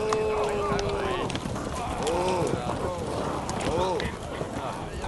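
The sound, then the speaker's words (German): A busy clatter of several horses' hooves clip-clopping steadily as riders arrive, stop beneath a tree and jump down from their horses, with indistinct voices and a few tonal calls mixed into the continuous noise. “Die Männer, verwegen aussehende Burschen, mit blitzenden Säbeln und elfenbeinbeschlagenen Pistolen sprangen von ihren Pferden.”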